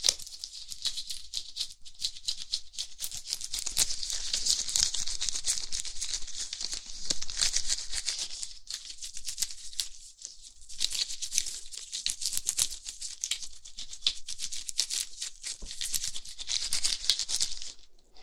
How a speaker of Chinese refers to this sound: OK，然后接下来是帮你把全身的毛发剃干净，剃毛。这里没有剃须刀，就用手术刀来帮你刮吧。